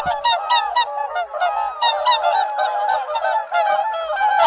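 A chorus of loud, bugling honks from several whooper swans at night, overlapping continuously in uneven bursts, with clear harmonic trumpeting calls and no talking.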